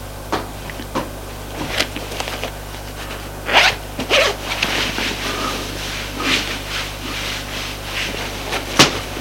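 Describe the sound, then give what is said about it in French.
A suitcase is unzipped and unpacked: several short, raspy zipper pulls and scattered clicks and rustles of handled items, with a sharp knock near the end and a steady low hum beneath, no talking. “Défont leur valise.”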